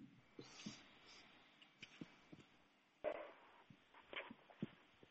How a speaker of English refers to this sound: We're just having a few moments of canine affection. That's all good.